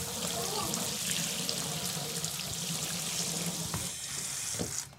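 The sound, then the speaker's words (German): A bathtub tap in a first-floor bathroom of a house runs steadily, a continuous hiss of pouring water that fills the whole moment without pause, with no voices over it. “Und bei der Badewanne.”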